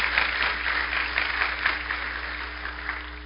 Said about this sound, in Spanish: Un gran aplauso de parte de Iglesia Josué para todos ustedes.